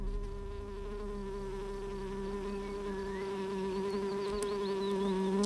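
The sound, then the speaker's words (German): A steady, droning hum of bees buzzing, continuous, with many layered wingbeat tones that swell slightly louder toward the end. No one speaks. “Weltweit haben sich auch die Bienenvölker wieder erholt. In China sitzt heute eine sehr, sehr nette Bienenkönigin auf dem Thron.”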